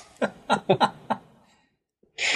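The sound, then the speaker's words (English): A male pet cat sneezes repeatedly, five quick sneezes in a rapid run, followed by a short pause and then one louder, harsher burst. “My cat just almost sneezed himself to death.”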